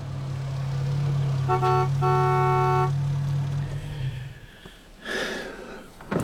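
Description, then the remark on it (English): A low, steady idling hum fills the cabin of a car parked outside a hospital while a couple of car horns honk briefly outside. The hum fades, then a muffled rustle and passing traffic follow. “So much so, I sat in the car outside the hospital.”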